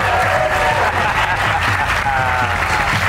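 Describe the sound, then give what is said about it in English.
An audience applauds loudly and steadily as comedian Kurt Metzger is introduced as a guest on a Fox show, a dense wash of many hands clapping that holds without a break for about three seconds, with a faint murmur of crowd voices mixed in. “Don't you dare applaud him.”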